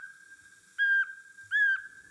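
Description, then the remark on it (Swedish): Eurasian pygmy owl autumn call: two loud, clear whistled notes about three-quarters of a second apart, rising over a thin, steady whistle that carries through the whole recording. “Sen sparvugglans höstläte.”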